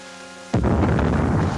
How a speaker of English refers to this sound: That's the cannon from New Orleans. You can hear it when the wind's right. There it goes again. Wind has shifted to the south.